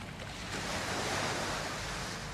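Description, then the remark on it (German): Ocean waves wash steadily onto the beach of Pemba in northern Mozambique, a broad continuous rush of surf that swells slightly in the middle, moderately loud with no voices. “Welle für Welle trifft auf den Strand von Pemba.”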